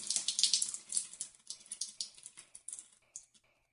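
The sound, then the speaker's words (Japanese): Running water from a shower in a shower room, used after exercise, hisses and spatters in uneven, crackling bursts, bright and splashy, fading slightly toward the end, with no voices. “を動かした後のシャワーってやっぱり最高ね。”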